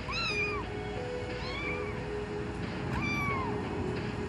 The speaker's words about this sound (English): I want to take a clip from the film, and it does come from earlier on, and it is Agnes in the supermarket with her newly found emotional support kitten, who she's just found on the side of the road.